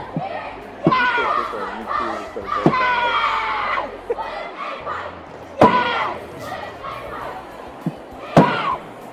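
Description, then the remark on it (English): A girl stomps her foot hard on the floor a few times at uneven intervals, sharp heavy thuds cutting through loud, excited shouting from young voices. “She's clomping her foot and stomping it.”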